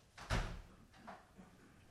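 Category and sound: household object, door shutting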